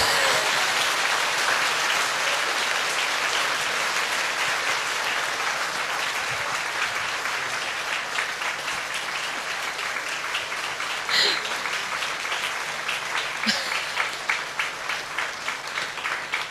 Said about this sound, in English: And if it's not too inconvenient, just stand up and put your hands together, and then we'd just like to show our respect in inviting Ajahn Brahm to the front. And you know, actually, you can clap because it makes him feel like a star. So go on.